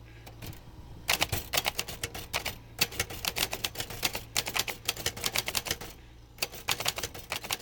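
Rapid, irregular clacking of typewriter keys, crisp, coming in bursts with a few brief pauses and a steady low hum underneath; no voices. The typewriter is being handled by a typewriter repairer in his garage workshop.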